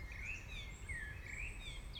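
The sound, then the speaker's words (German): Faint birdsong in a quiet forest in the evening: thin whistled phrases rise and fall continuously over a soft low rumble of background air, with no voices. “Vögel werden etwas ruhiger.”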